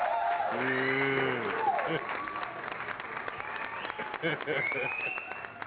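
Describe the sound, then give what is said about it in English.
Steady applause for a guest being introduced fills the whole stretch, a dense crackle of many hands clapping with a crowd murmuring and a few whoops and shouts rising over it, full. “We know you got some applause up in this joint, dog.”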